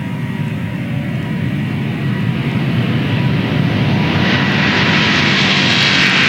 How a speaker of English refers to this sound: High thrust to weight, barely got the tail on the ground before they got airborne.